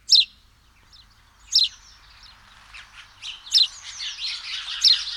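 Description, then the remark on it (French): A flock of house sparrows chirping together, sharp high chirps repeating at first, then crowding into a busy, overlapping chatter that fills the second half. No voices are heard. “Lorsque le moineau va se rassembler en bande, ce qu'il aime faire, les chips vont s'accélérer et occuper tout l'espace sonore.”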